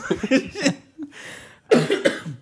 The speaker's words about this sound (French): Ah, c'est bon, t'as fini de tousser ? Je t'en prie, excuse-moi.